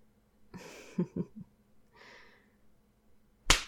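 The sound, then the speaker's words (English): A single sharp, loud slap, part of a series of ten slaps, lands near the end, preceded by soft breathy exhales and rustling with quiet gaps in between. “I'm going to do 10 slaps.”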